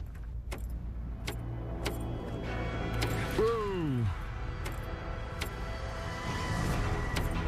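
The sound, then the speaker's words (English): A truck engine tries to start and fails on a cold night in the mountains, miles from the main road: scattered sharp clicks, then a short, loud descending whine that winds down over about a second, over a steady low rumble. “The engine won't start, That's something you don't want when you're miles away from the main road.”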